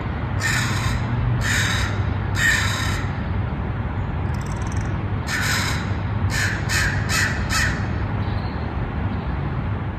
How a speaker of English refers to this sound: I live in downtown San Francisco in California in the United States. And I get to listen to crows almost every morning, along with my cat, Dusty Jr., looking out my window onto the city skyline